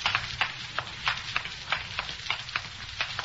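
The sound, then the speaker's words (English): Water runs steadily inside a building, a continuous bright hiss broken by frequent irregular crackling splashes and spatters, with no voices. “You hear water running? Sounds like it's coming from inside.”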